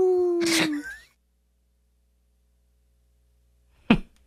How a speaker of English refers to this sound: That ended rather abruptly with a coyote howl there.